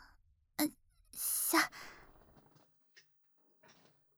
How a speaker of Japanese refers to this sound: では、また椅子を…よいしょっと…背もたれも…